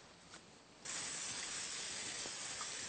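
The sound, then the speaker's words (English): An aerosol vegetable oil cooking spray hisses onto a parchment-lined baking sheet in one steady, continuous burst, starting abruptly after a quiet moment and holding strong for a couple of seconds. “As you can see, we have a baking sheet lined with the parchment paper, and now we're going to put some vegetable spray on top of it, just an extra measure to prevent it from sticking.”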